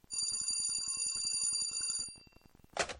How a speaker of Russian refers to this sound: Довольно долго я пребывал в тихом, бессмысленном созерцании, а когда силуэты домов совсем размылись, стертые сумерками, и зажглись фонари, затрезвонил телефонный аппарат.